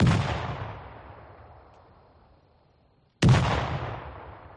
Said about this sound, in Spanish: ¿Habrá alguien que esté tirando cañonazos? Pues no. A las 5 de la mañana, en la puerta de la parroquia, son unos cohetes.